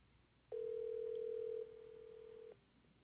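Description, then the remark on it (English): A telephone ringing tone as a call is placed to someone's daughter: one steady, low-pitched hum lasting about two seconds, loud at first and then dropping to a quieter level before cutting off. No voices are heard. “Let me call her.”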